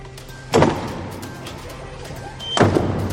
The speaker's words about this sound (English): The doors of the Sistine Chapel close as the conclave begins in the Vatican.